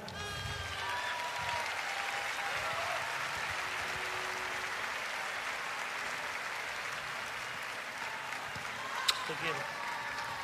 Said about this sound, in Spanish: Con mucho cariño quiero recibir en este escenario a un gringo santafesino que escribe canciones hermosas como la que vamos a cantar ahora. Y con el aplauso de ustedes,